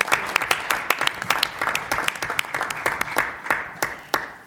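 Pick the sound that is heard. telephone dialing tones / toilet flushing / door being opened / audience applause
audience applause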